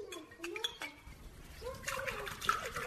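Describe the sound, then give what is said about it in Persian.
Tea pours into a glass with a steady splashing gurgle that brightens and thickens toward the end, while indistinct voices murmur underneath. “مادر جان، تو یک گلاس چای دگام پر تو، چی یک مزه دار.”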